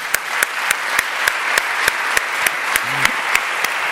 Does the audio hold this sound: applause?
yes